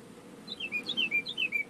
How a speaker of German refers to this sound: Ich muss mal kurz, wo der Vogel hier gerade rein zwitschert. Ich hoffe, das ist nicht zu laut. Ich muss die Tür hier offen haben.